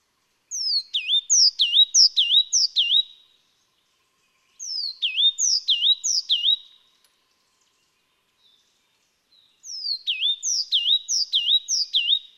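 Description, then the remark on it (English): Himalayan black-lored tit calls: three clear bursts of quick, high, repeated whistled notes, each phrase of four or five notes separated by short pauses, heard alone with no talking. “Then we have birds like the Himalayan black lord tit, Maclolophus xanthogenus.”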